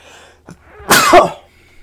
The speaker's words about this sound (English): That one was like, I was waiting on that sneeze for like a while. So I'm happy that finally came out.